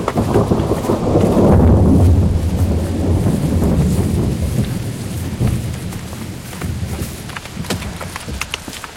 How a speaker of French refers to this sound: Ils étaient là depuis un certain temps, déconcertés par la violence de l'orage